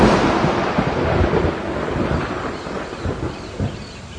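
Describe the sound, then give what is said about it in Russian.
A loud, sustained roll of thunder in a thunderstorm with strong wind, with crackling edges and deep rumbling bursts, steady throughout and easing slightly toward the end, with a faint hiss of rain or wind beneath. “При треске и грохоте раскатов грома он бледнел, трусил и чуть не плакал.”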